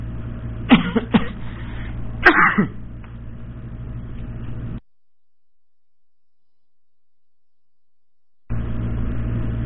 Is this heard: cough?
yes